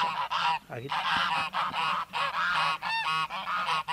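A crowd of geese honks continuously, loud nasal calls overlapping one another in a dense, restless chorus with only brief gaps.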